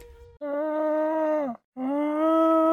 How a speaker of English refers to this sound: Hey, what's that sound? Oh, I hear a llama.